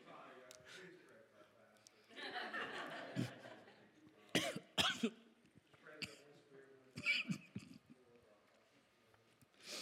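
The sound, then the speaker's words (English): A person coughs in several sharp, harsh bursts spread over a few seconds after taking a little drink, with quieter throaty, breathy sounds between them. “I usually take a little drink while I'm doing that, and that coughed me off guard.”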